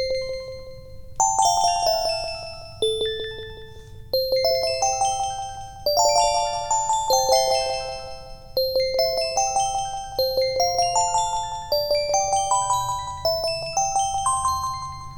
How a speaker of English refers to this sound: Nice ringly dingly bells. And I thought, oh, that's nice. I like bells. I like synth bell sounds so much. And that's just lovely.